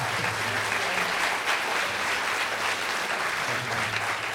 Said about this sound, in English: Thank you. Would you just, a round of applause for our panelists.